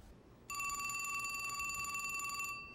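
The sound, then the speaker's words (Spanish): A telephone rings with a single sustained, trilling electronic burst lasting about two seconds, loud, over a quiet background hiss with no voices. “Carlin condujo 2 horas al teléfono más cercano para alertar al Departamento de Caza y Pesca.”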